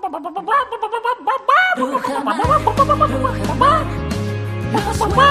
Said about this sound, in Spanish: En una granja no se escucha a las gallinas porque no son felices. Y en la granja Rujamar lo que predominan son sus gallinas porque son felices, porque viven en libertad.